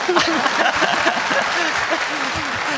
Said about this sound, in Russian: После каждого хлопания рассуждать. Вот это конкретное хлопание.